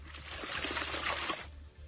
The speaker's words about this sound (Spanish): Así suena el río cada día. Y después de las lluvias caídas, así va en estas jornadas en la presa de Belle.